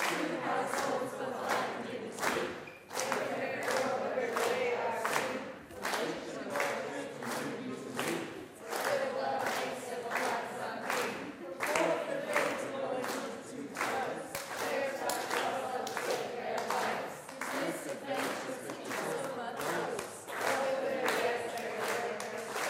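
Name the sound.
audience clapping a rhythm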